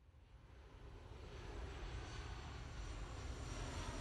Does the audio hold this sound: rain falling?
no